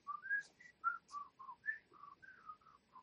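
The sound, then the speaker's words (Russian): A person whistles alone, imitating wind, a quick run of about a dozen short, clear notes that hop up and down in pitch, fairly quiet, with no talking. “Просто ветер, просто пустота, вот этот свист.”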